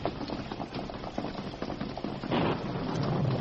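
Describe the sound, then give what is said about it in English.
Steady, dense storm rain hisses throughout with scattered pattering drops, swelling a little louder in the last second. No voices are heard. “We'll have some protection from the storm.”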